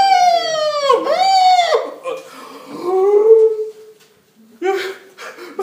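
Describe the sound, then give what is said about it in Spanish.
A voice mimics the siren of a police car at night, with loud, wailing pitch sweeps that rise and fall, then a lower drawn-out wail, a brief pause, and a short final burst. “Y la sirena...”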